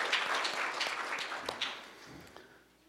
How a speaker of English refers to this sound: I want us to give a round of applause and acknowledge that God is at work in our kids. Amazing.